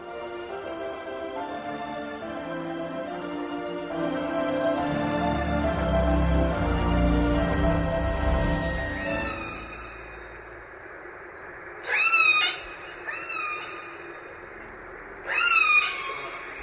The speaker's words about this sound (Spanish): Esto que escuchas es el sonido de una orca, sí, de un cetáceo, ¿no?, de la familia de los delfines, que puede llegar a medir hasta 9 metros de longitud y pesar más de 5 toneladas.